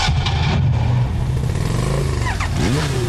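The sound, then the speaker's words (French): A motor engine rumbles loudly and steadily, then revs up and down near the end, its pitch rising and falling in a quick sweep. No one speaks. “Avec Ecobatterie, votre bateau, tondeuse, moto, auto démarre au quart de tour.”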